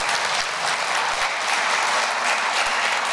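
Sustained applause from an audience, a dense wash of many hands clapping at steady volume throughout, close and fairly loud, with no voices standing out.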